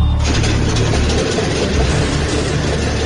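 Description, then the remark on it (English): The engine of a water bomber aircraft, just repaired after an oil leak, runs loud and steady, a constant low rumble with a broad roaring hiss and no breaks for the full few seconds. “With the leak fixed, the water bomber is ready to fly.”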